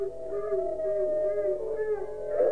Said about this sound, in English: At the sound of its death shriek, the pack raised howls of delight.